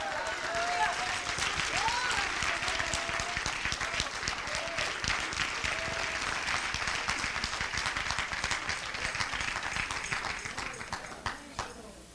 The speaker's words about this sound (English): Come on, clap your hand for Jesus. No, I didn't tell you to clap your hands for me. I said clap your hands for Jesus.